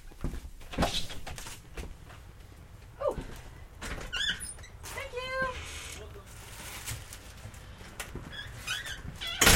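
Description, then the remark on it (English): A door creaks open with a drawn-out, rising squeak made of several wavering creaks, then closes with a dull knock near the end, over slight background noise. “By the way, whenever we need like a prison door close.”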